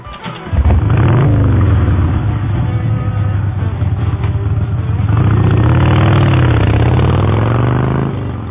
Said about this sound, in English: So why don't you just go in there and dress her up for a trip to the mall and let Daddy start his motorcycle, okay?